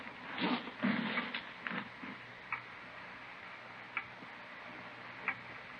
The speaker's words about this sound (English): Clock, ain't it?